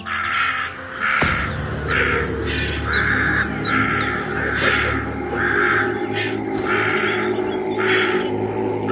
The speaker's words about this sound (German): Es sind nur Vögel.